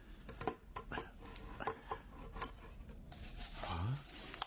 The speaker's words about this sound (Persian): حال میتوانی در جعبه را بکشایی؟ ترجیح میدهم در حضور شما باشد تا بدانم داخل آن چیست.